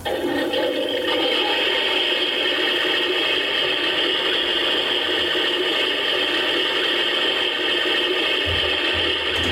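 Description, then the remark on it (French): A steady, rushing toilet-flush sound from a Japanese toilet sound device plays continuously for about ten seconds, fairly loud and unchanging, like a simulated flush, with no talking. “En fait, c'est le bruit des toilettes, hein. Le bruit de la chasse d'eau.”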